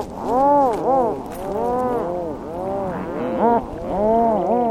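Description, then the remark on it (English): A dense chorus of rhinoceros auklet calls from a busy nesting colony of about 72,000 adult birds on an island, many overlapping groaning, mooing cries rising and falling continuously, loud with no speech. “The island harbors one of the largest nesting colonies of rhinoceros auklets in the world, numbering about 72,000 adult birds.”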